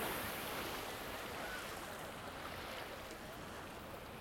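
A steady, broad wash of sea waves rolls on without pause, a constant hissing surf with no clear voices or distinct splashes standing out above it, with many people out in the sea swimming and paddling.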